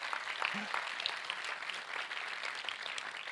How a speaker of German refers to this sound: Wir haben eben hier unsere Sänger gehabt und ich finde, unsere Anbeter, die machen richtig einen coolen Job. Vielleicht geben wir ihnen mal einen kleinen Applaus.